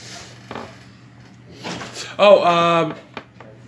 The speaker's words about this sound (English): Anyway, sorry about that little interruption. The door suddenly opened because of ghosts.